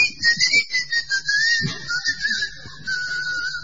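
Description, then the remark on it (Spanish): A steady, high-pitched electronic whistle from a key chain finder rings continuously for a few seconds, its pitch wavering slightly, over soft low rumbling and pulsing background noise. “El llavero ese que tiene viene con un chiflido, vos lo perdés.”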